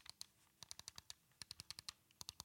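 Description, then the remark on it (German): Game controller buttons click like mouse clicks, rapidly in several quick bursts separated by short pauses, each press a sharp tick, fairly quiet with no talking. “Genauso wie hier die Buttons, ne?”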